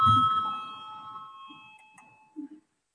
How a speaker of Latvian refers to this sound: Lūdzu, zvanu, balsosim par 7. atbildīgās komisijas priekšlikumu.